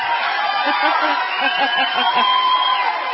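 A crowd applauds and cheers steadily, a dense wash of clapping mixed with whoops and scattered laughter, holding a constant loud level throughout.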